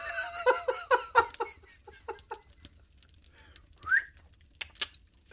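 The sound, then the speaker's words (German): A quick run of harsh, clucking bursts gives way to one loud, sharp whistle that glides upward, made by a man, followed by a few faint clicks. “fixierte er mit seinen Augen Hilde, pfiff einmal laut”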